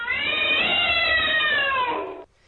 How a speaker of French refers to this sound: Alors, elle les voit, les chats noirs qui traversent la rue et qui miaulent dans une façon terrifiante.